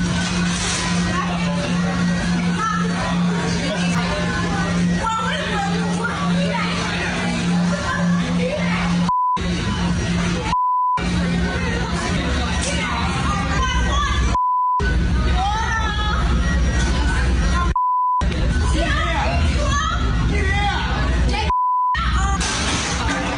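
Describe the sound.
Loud, agitated voices talk over each other as police arrest a woman in a kitchen, while short censor beeps cut in again and again, several steady tones breaking up the heated speech at irregular intervals.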